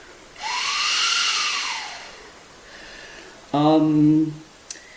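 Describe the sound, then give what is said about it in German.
Breath blown into a printed generator piece of a pipe gives a loud, hissing rush of coloured noise with a faint hollow, whistly tint, then a quieter puff and a short buzzy, voice-like tone. “Es ist so ein farbiges Rauschen.”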